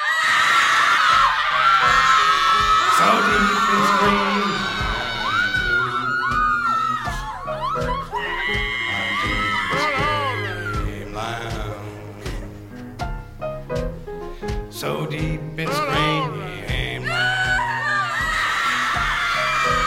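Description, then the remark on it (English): Several loud, overlapping screams fill the whole stretch, voices wailing and swooping up and down in pitch almost without pause, piercing, with no talking. “We take quite a bit of criticism for this, but we find that some screams just want to”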